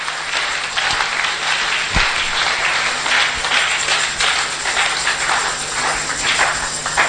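A crowd claps steadily for about seven seconds, a dense, crackling wash of many hands overlapping with no clear rhythm, staying loud and even throughout with no talking.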